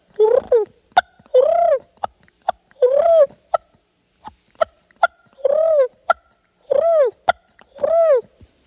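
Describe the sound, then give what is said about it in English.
A voice imitates wild turkey feed and purr calls: rolling, purring calls repeat roughly every second, interspersed with sharp, clicking clucks in a steady back-and-forth rhythm, with no talking. “I'll do the feed and purr.”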